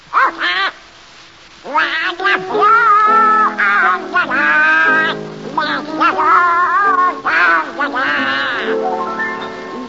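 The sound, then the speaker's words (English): Donald Duck's raspy, quacking cartoon voice sings in bursts on a radio show, the nasal warbling tones rising and falling loudly, with brief pauses between phrases. “Donald Duck, you've denied being the worst singer in the annals of radio. All right, prove it. Sing.”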